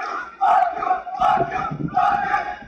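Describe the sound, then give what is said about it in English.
A large crowd in Hungary yells and screams loudly at police during a riot in three surging bursts, many voices shouting together in an angry, chant-like rhythm with constant rumbling commotion underneath. “This is a complete mess. You can see, like, just everyone just running around. They're screaming, fuck you to the police.”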